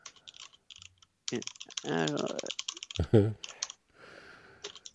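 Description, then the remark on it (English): Rapid, irregular clicking of someone typing on a computer keyboard, fairly clear, continuing through most of the stretch, briefly joined by a soft voiced murmur or sigh. “I can hear your keyboard clicks.”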